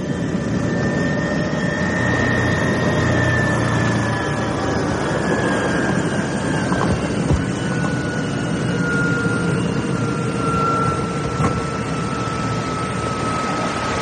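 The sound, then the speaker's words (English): A helicopter carrying engineers from the Northern Lighthouse Board comes down to land on the small helicopter pad on the rock at the Bell Rock Lighthouse, its loud, steady turbine roar and rotor drone filling the whole stretch, with thin whining tones riding above and no voices. “And we've only got an hour before the tide comes back in, covering the rock and the helicopter landing pad.”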